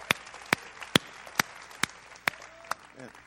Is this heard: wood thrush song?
no